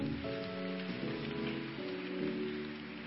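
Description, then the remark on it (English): An audience claps together in a dense, steady patter, over sustained keyboard or organ chords that shift pitch a few times. No one speaks. “Church, let's clap our hands now.”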